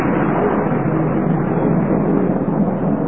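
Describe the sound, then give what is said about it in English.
A deep, rolling rumble of thunder during a downpour holds steady and loud for about three seconds, a continuous dense roar with no distinct cracks and no voices. “I've also got an ache in my left elbow, which means the thunder about.”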